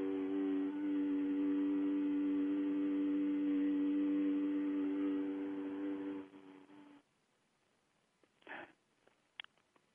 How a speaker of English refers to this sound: Mmm is almost more calming than ooh. Try an mmm. It's just a hum, a soft hum. Mmm.